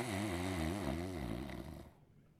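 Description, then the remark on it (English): A man working the sound booth imitates snoring: one long, rumbling, throaty drone with a wavering pitch, fairly loud, fading out after about two seconds. “I thought he was in the back someplace making like he was snoring.”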